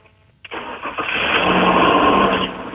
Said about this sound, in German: dann sei doch mal bitte so nett und starte den Motor des Vehikels